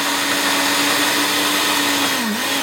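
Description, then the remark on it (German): A blender mixes ice, strawberries, sugar, vodka and lemon juice in a music pub in Würzburg. It runs loud with a steady motor whine and grinding roar, its pitch dipping briefly near the end as the load shifts. No one speaks. “schüttet Eis, Erdbeeren, Zucker, Wodka, Zitronensaft in den Mixer. Das wird so mal ein wenig lauter.”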